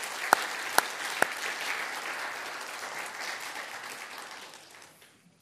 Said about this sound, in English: And just really want to honor your leaders for the work that they have put in. And can you give them a round of applause just to honor them? That's great.